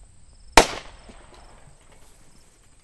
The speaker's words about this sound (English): He lures over one of the American Mulefoots with a grain mixture. He takes care to line up his shot so that the bullet penetrates the thick skull, so that the death is immediate and, he hopes, painless.